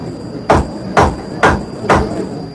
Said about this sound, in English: Mr. Khrushchev, you will please refrain from banging your shoe on the table